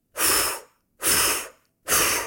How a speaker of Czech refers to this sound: V tom se za ním ozvalo hlasité oddechování.